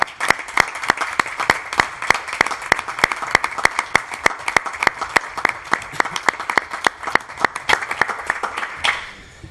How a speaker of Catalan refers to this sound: Moltes gràcies. Un aplaudiment.